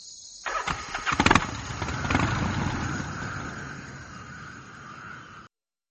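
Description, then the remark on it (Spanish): A witch's jet-propelled vacuum cleaner engine sputters through a few rapid cranking bursts as she mounts it, then roars up into a loud, steady whining drone that slowly eases before cutting off abruptly. “Entonces se montó en su aspiradora a propulsión y...”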